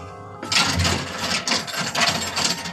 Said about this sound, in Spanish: El guardia armado obedece y acciona los cerrojos.